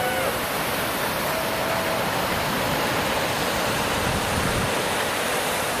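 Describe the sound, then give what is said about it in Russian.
A steady, dense roar of rushing water fills the whole clip, like a wave breaking and churning, loud and constant with no pauses, as people hop onto the wave and roll along with it. “Вот некоторое подобие волны пошло, и они тут все на него вскочили, наподобие.”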